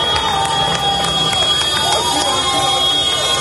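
A large crowd at the Dakar Rally finish line cheers and applauds in a steady, loud ovation as driver Carlos Sainz crosses the line after winning his fourth Rally Dakar. A dense roar of many voices and clapping holds without pause for a few seconds.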